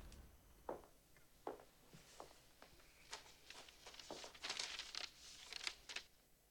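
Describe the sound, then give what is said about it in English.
Soft paper rustling and crinkling in a series of brief bursts as a jury foreman hands a folded paper to the bailiff in a courtroom, growing busier and a little louder toward the end, with faint shuffling underneath and no voices. “The jury foreman hands a folded paper to the bailiff, who carries it to the judge.”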